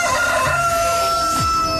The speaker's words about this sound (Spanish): Vamos adelante con el gallo de Radioactiva en esta mañana.